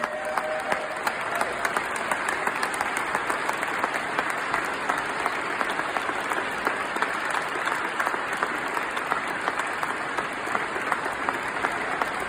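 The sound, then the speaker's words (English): A large crowd gives a standing ovation to a World War II veteran before he leads the Pledge of Allegiance, with dense, steady clapping that stays loud and unbroken for the full twelve seconds, faint cheers and crowd noise mixed into the applause. “He received a standing ovation before he began, and you'll hear that too, but the cheering really intensified once he finished.”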